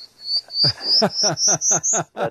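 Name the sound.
prairie warbler song recording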